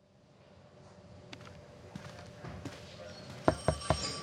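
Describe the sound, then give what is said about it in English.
A phone rings as Kate Shepard receives an incoming call from a burner phone, a steady electronic tone held throughout while scattered knocks grow louder, ending in three sharp, strong thumps. No one speaks. “It looks like Kate Shepard's receiving a call from a burner phone.”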